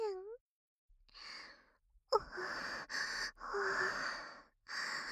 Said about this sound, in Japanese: こうやって荒い息遣いで話されると